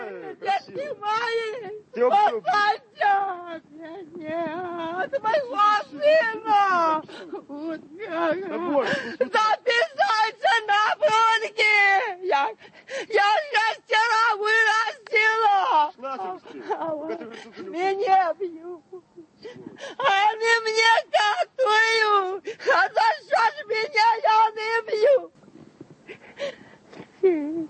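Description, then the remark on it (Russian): A lone voice keens a wailing Russian folk lament, its pitch sliding and sobbing through long wavering phrases with short breaks for breath, steady throughout. “То есть если у кого-то какое-то горе, он может просто пойти в лес и там в одиночку высказать все, что у него есть на душе, используя поэтику музыкальную и словесную плача.”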